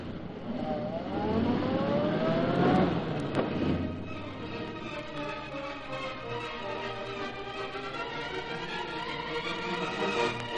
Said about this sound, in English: Start this car quick.